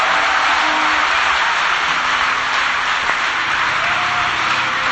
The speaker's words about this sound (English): Clap your hands for Jesus Christ. If you love the truth, clap your hands for Jesus Christ.